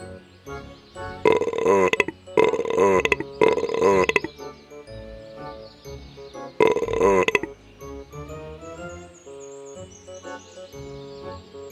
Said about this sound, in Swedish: En rap.